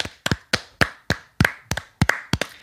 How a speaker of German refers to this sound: klatsch mal in die Hände.